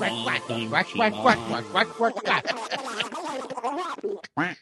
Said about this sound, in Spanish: Dios mío, ese pato haciendo gálgaras, cabrón. Wow, cabrón.